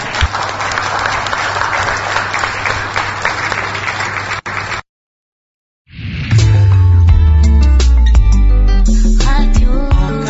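An audience breaks into steady, dense applause for several seconds, then it cuts off abruptly; after a short silence, loud music with heavy bass begins.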